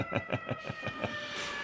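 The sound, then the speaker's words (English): A police siren holds a steady, high, whining tone beneath a rapid, regular thumping pulse that fades out after about a second. No one speaks. “This is by, as you hear, the cops coming for me in the background.”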